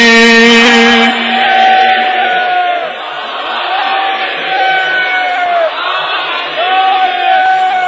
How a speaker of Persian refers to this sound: دستتو بلند کن با همه وجود فریاد بزن یا علی.